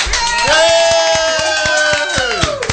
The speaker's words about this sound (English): Take that clip, record it, and that's the new laugh track. There you go. Clap track.